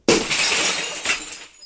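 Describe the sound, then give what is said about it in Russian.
A sharp impact of a bat striking ice, followed by a bright, crashing shatter of ice, with glassy fragments scattering and tinkling for over a second before falling quiet. Loud, with no voices. “Превратила его в ледяной пень, битой по голове.”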